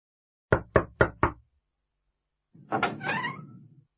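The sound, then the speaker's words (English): Four firm, evenly spaced knocks on a home's door, loud, then a short pause before a longer creaking, scraping sound as a woman opens the door. “Here's a knock on the door.”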